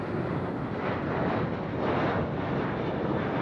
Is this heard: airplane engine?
yes